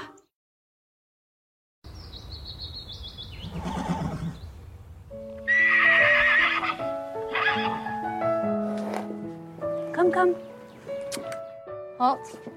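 After a short silence, a horse whinnies loudly, its neighs rising and falling over several seconds while hooves clip-clop in the background.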